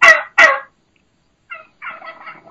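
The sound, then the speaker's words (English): A wild turkey hen gives two loud, sharp high-pitched calls, followed after a pause by softer, lower, slow trailing yelps, the call of a dominant hen. “There's the high pitch.”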